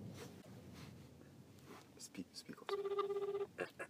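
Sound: phone call ringing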